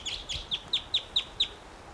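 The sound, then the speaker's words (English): A wild bird calls in a quick, even series of about seven high, sharp chirps, each dipping slightly in pitch, heard alone over faint background noise with no talking. “Here's that bird again.”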